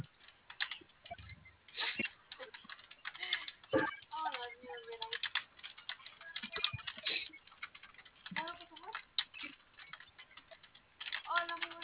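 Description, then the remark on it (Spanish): Rapid, irregular clacking of keys being pressed on a cash register keyboard, steady throughout, with brief murmured voices in the background. “No, tu teclado de la caja.”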